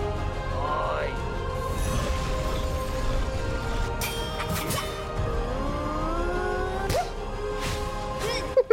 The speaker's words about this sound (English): She just pimp slap him for no reason. What if that was a good guy?